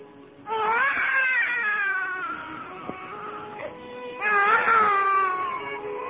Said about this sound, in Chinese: 哎，谁家又多添了一个宝宝了？ 别怀疑，这就是你第一次的哭声啊。